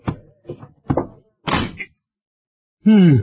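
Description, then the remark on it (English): A supply closet door at a school is handled and shut in a series of wooden clunks and rattles, then a short silence before a voice begins speaking. “Here's a door. Over supply closet. Well, I'll have to squeeze in.”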